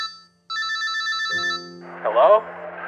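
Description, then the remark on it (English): A phone rings with a bright electronic trill, rapid high-pitched pulses lasting about a second, then a low steady tone takes over as a voice briefly cuts in. “oh, wait, one sec, getting the call.”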